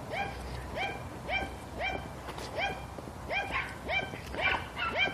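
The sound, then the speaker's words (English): Small dogs yap in a steady, rapid series of about ten sharp, high-pitched barks, with no talking over them. “Oh, yappy dogs. What a surprise.”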